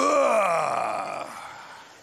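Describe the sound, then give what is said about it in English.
A single drawn-out vocal groan, like someone heaving up out of a chair, its pitch sliding steadily downward as it fades over about two seconds. A person is imitating the sound. “It's like that thing when you get out of the chair, you make that sound your father used to make when you get up.”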